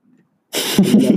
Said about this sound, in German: Ich lasse das Mikro einfach an und huste euch ins Ohr.